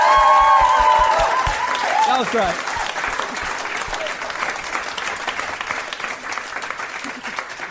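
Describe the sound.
An audience breaks into sustained applause after a report, a dense wash of clapping that holds steady for several seconds, with a brief spoken remark and some musical tones at the start.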